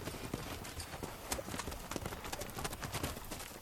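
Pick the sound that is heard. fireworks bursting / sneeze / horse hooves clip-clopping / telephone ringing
horse hooves clip-clopping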